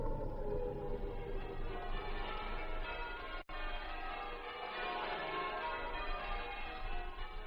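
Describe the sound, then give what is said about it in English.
Church bells peal continuously and loudly on the last day of the old century, in 1900, their overlapping tones ringing together in a dense wash, with a brief break partway through before the ringing resumes. “As the bells rang out on that last day of the old century, they did not ring out the end of one era and the beginning of another.”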